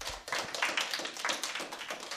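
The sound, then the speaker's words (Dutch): Steady applause for a group of children who researched Jan-Paul Schutte's book about the children of Amsterdam, during a broadcast from the Openbare Bibliotheek Amsterdam, many overlapping bright claps forming a dense, continuous patter at even loudness throughout, with no voices over it. “Ik wil jullie een heel groot applaus geven.”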